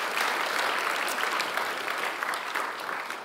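An audience claps steadily, a dense patter of many hands at an even, fairly loud level throughout, with no voices standing out.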